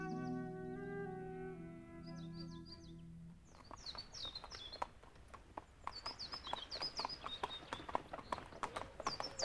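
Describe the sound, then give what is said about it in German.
Hooves of a horse and a donkey clip-clop at a steady walking rhythm as they travel in spring, fairly loud, with birds chirping overhead; a held musical tone fades out just as the hoofbeats begin. “Im Frühjahr sind Barlow und Lauscher zu Pferd und zu Esel wieder unterwegs nach Draglob”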